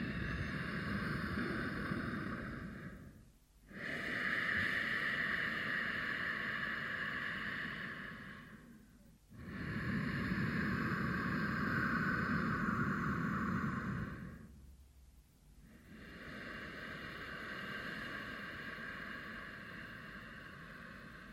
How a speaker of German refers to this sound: Verschließe hinten deine Stimmritze. Atme jetzt nur hörbar durch die Nase ein und aus. Stell dir vor, du würdest eine vereiste Autoscheibe aufhauchen wollen, indem du nur durch die Nase ein- und ausatmest. Hört sich dann etwa so an.